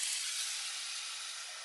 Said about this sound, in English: Oh yeah, I hear it. I hear the sizzling.